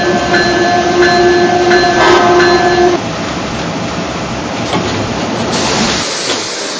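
A Penn Line southbound passenger train, number 505 from Perryville, pulls in on track 3: a loud, steady tonal whine for about three seconds, then heavy rumbling and rattling of the cars as it rolls along the platform.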